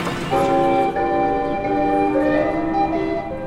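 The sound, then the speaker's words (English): Bright electric bells of pinball machines in an arcade ring continuously and loudly, their overlapping metallic tones sustained and layered for the whole stretch, with no talking over them. “You'd hear the balls bouncing off the thumper bumpers and the bells ringing, fun for all.”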